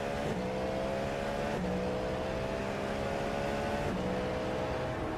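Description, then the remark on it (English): A racing car engine drones loudly and steadily during a race, its pitch dipping briefly a few times as if shifting gears, with a constant background roar and no voices. “I think he's the only Beamer in this whole damn race.”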